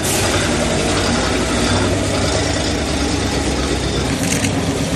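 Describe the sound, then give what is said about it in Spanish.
The engine of a bus carrying 264 Ukrainian soldiers from the Azovstal steelworks runs steadily throughout, a loud mechanical rumble with a dense rattling, clattering texture and no voices. “Este sonido que estamos escuchando es el sonido del autobús en el que han sido trasladados los 264 soldados ucranianos que todavía estaban en la acería de Azovstal.”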